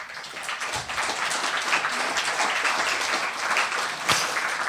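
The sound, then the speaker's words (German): Sustained audience applause for the artwork team at an event, a dense wash of many hands clapping steadily at a fairly loud, even level throughout, with a few sharper individual claps standing out. “Also Artwork, ganz herzlichen Applaus einfach mal.”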